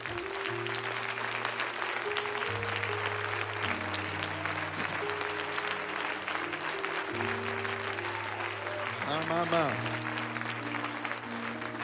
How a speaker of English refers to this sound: If you believe God's going to do something today, why don't you clap your hands?